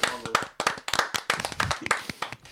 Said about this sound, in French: On applaudit John Sewell. Bravo.